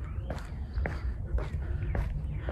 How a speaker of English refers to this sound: But listen. Birds, wind, footsteps. I mean, if you're running in a busy street, it's not so great, but isn't this nice? I think I hear a woodpecker.